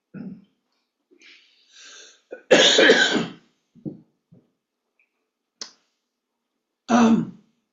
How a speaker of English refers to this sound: And so, excuse me, but my cough has decided to act up.